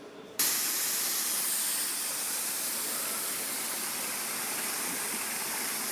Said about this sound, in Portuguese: Podemos observar ali a fuga de água, né, pela lateral da comporta. Vê que não está saindo pelo vertedouro.